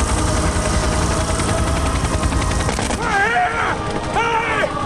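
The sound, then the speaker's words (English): Rapid, loud rifle shots fired into the air by Burnett on a flat plain as a helicopter departs crack over a dense, roaring rumble. Toward the end, a shouting voice with wavering pitch rises over the noise. “Shooting his rifle in the air, Burnett waves frantically, unseen by the departing chopper.”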